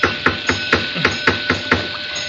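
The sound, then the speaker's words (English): A flashlight raps on a door about eight times in a steady, quick rhythm. Sharp, fairly loud knocks stand alone with no talking. “Perhaps if I rap with my flashlight on the door, it'll attract somebody's attention.”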